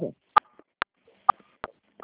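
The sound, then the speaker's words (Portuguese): Five short keypad beeps on a phone line as the caller presses buttons on their phone during a call, spaced roughly evenly and fairly loud. Each is a brief, bright tone. A faint murmur is heard just before the first. “Acho que você tá apertando algum botão do seu aparelho, eu não consigo te ouvir.”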